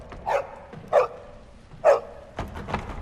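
A dog barks three times at a front door in sharp, evenly spaced, loud bursts, followed by some faint rattling of the door.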